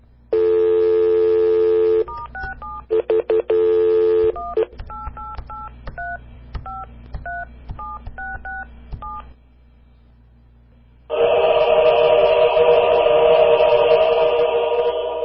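A steady dial tone is followed by a quick run of short touch-tone keypad beeps, about a dozen distinct dialing tones as a phone number is dialed, then a brief pause before a loud buzzing ring-back tone begins.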